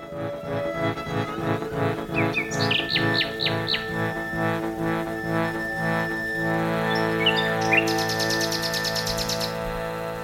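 Bright bird chirps flit through the first few seconds, and later a rapid, high trill rings out, all layered over a steady, sustained tonal background. No one speaks.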